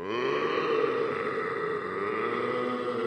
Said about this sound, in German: Das ist Henry Hirsch. Er röhrt. Röhren nennt man es, wenn ein Hirsch ruft.